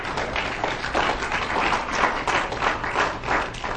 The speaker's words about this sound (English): Praise the Lord. Give the Lord a hand clap for that, people.